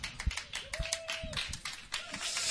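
Applause made of scattered, uneven hand claps at moderate loudness, with a brief steady tone, like a held whistle, rising above the clapping.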